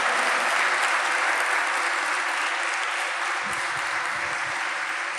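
audience applauding

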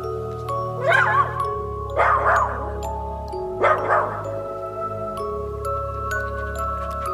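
dog barking

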